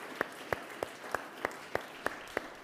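Audience clapping in a slow, steady rhythm during a church service, about nine evenly spaced sharp claps over a soft hiss, with no voices.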